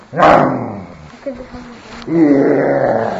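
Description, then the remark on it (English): A lion roars loudly, two rough, growling bursts with a brief lower rumble in the pause between them, the second roar long and sustained. “The lion is coming.”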